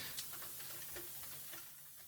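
Soft, steady rain falls in bad weather in NRW, Germany, with a continuous hiss and faint scattered ticks of drops, low in level and without any voices.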